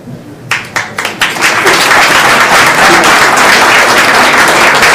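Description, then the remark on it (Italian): An audience breaks into applause: a few separate claps at first, quickly swelling into steady, loud, dense clapping that holds to the end without talk. “Credo che questo applauso rappresenti anche il fatto che idealmente saremo un po' tutti con lui nel momento storico in cui semineranno il loro campo.”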